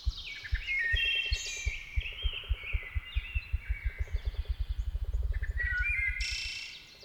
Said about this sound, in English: The drum of a ruffed grouse.